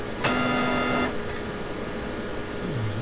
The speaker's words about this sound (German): Das ist der Tritonus. Den findet ihr hier bei meinem Drucker, wenn der scannt.